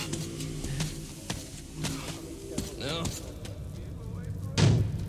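Several heavy, irregularly spaced knocks or thuds against the gate of Exhibition, with a louder, booming bang near the end, over a low, droning background hum.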